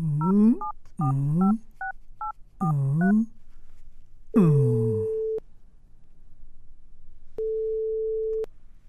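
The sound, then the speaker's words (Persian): A run of short telephone keypad tones beeps out in quick bursts as someone dials a phone number, followed by a longer steady electronic tone that sounds twice with a pause between, clear. “باش که نمبرشو بگیرم.”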